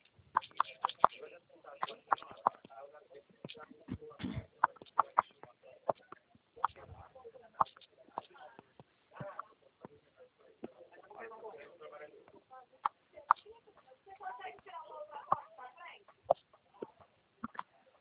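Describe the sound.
A chicken clucks repeatedly in short, choppy bursts, with sharp clicks and muffled voices mixed in throughout.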